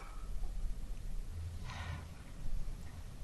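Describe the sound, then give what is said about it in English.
A single breathy exhale or sniff blows into the microphone about midway through, during a court argument, a soft airy rush over a low, steady background rumble with no talking. “I was just breathing.”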